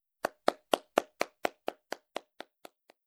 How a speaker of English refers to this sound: He's very happy. He's clapping.